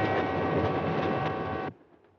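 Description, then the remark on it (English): A steady, dense roar of an overnight passenger train with sleeping berths rolling along the rails from New York to Chicago, loud with a faint whine, continuing evenly before cutting off abruptly into near silence. “A train may be an old-fashioned way to travel, but an upper berth can be a lovely place to go when it's your time to go.”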